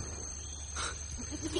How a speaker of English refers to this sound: It is. A goat. It's a goat. Here, goat. Come to Robinson.